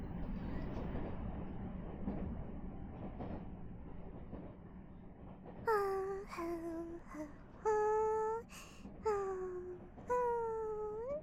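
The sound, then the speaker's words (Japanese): A commuter rapid train at Shiyakusho-mae station, next stop Chūgakkō-mae, rumbles steadily along the rails, its low drone filling the space, then several sharp, high whining squeals cut in and out over the running noise. “この電車は通勤快速、市役所前駅です。次は中学校前です。”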